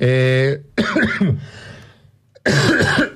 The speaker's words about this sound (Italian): Oggi questo tossone